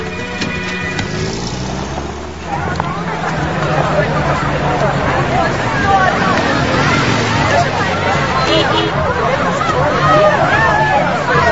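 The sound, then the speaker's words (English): A dense outdoor Carnival crowd on streets being closed off for Carnival fills the air with continuous overlapping chatter and shouts, a steady festive street hubbub with a low rumble of traffic underneath, loud throughout. “Never be able to get my car through this crowd.”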